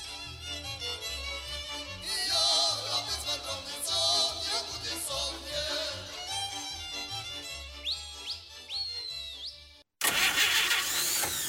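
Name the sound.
old car engine cranking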